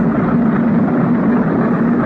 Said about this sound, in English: Here we go again, another plane's come over. Another one coming over.